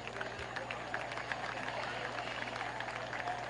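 A modest crowd at a baseball game claps steadily, a dense patter of many hands, holding an even level throughout with a faint low hum of the venue underneath, as the batter Gomez trots down to first base.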